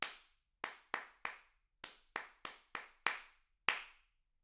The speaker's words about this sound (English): Test 2, clapping back rhythms. I shall count the pulse and then clap a rhythm. You clap it back immediately after you hear it.